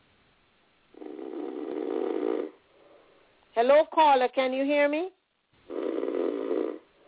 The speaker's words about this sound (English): Oh, well, I think this person fell asleep. I think I hear them snoring. Or they are shy to speak.